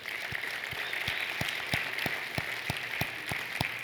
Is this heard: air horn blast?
no